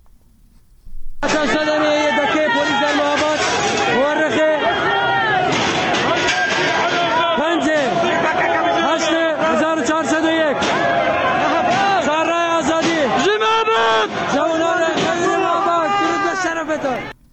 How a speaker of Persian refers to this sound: بنابراین تصاویر، معترضان با وجود شنیده شدن تیراندازی‌های شدید ساختمان فرمانداری را محاصره کرده و شعارهای ضد حکومتی سر می‌دهند.